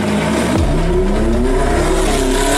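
car speeding away

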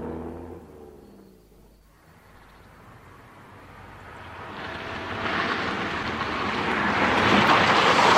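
car engine driving

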